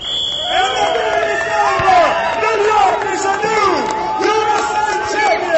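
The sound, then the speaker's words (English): A crowd of about 300 people cheers and shouts continuously at a soccer match after New York's 1-0 win over Pennsylvania, many voices overlapping in a loud, dense roar, with a brief shrill whistle-like tone at the very start. “The crowd of about 300 people cheered after New York's 1-0 win over Pennsylvania.”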